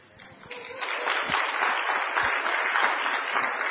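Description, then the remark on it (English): An audience at Amboy Baptist Church breaks into clapping as a woman is presented as wanting to make the church her home. The clapping swells quickly after a brief quiet start, then holds as a steady, dense, fairly loud applause with many overlapping hands. “Don't clap.”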